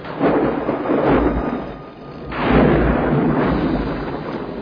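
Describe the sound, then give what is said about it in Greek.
Deep rumbling thunder of an approaching typhoon rolls in two long, heavy waves, the second swelling after a brief lull, with a broad noisy wash like wind and rain behind it. No voices. “Έρχεται τυφώνας! Κρατηθείτε!”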